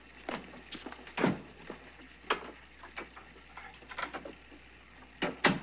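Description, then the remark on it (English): A door being handled as a man walks out: several sharp clicks and hollow thunks spread over a few seconds, moderately loud, with a final pair of knocks as it shuts. No one speaks. “Taking his jacket off the chair, he turns and walks out the door.”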